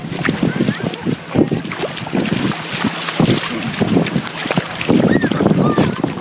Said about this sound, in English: We were also sent this lovely clip from a beach somewhere.